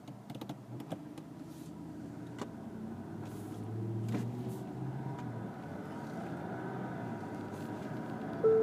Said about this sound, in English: Oh, there's that tearing it up demo truck again. Must be blowing something up around here.